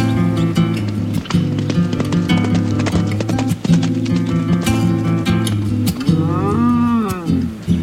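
Hooves clip-clop steadily across the ground while bulls low and bellow, a busy herd of bulls and horses moving together on an open grazing range (parcours) in the Camargue, France, with no talking.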